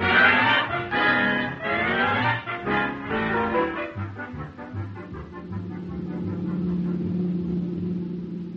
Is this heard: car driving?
yes